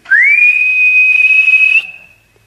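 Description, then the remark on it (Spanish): An eerie, ghostly whistle swoops up briefly, then holds one steady high pitch over a breathy hiss for nearly two seconds before stopping and trailing off into silence. “Ya iba a saltar el alambrado limpito cuando sintió un silbido como de ánima, ¿no?”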